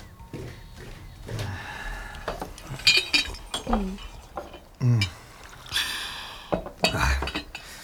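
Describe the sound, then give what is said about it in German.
Hot tea is poured and cups and crockery clink in a few sharp, bright taps, with soft kitchen shuffling and brief murmured voices in between, as four people share tea in a kitchen. “Gemeinsam genossen sie einen heißen Tee, den … aufgebrüht hatte.”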